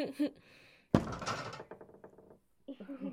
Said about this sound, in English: What? Wait, what? Why did they close the door? Guys, we're still in here.